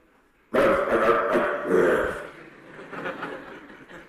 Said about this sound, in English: Especially dogs. They just make their mouth go way up. Their gums go way, way up. So you can see every particle of their teeth. And they flash those teeth and start barking.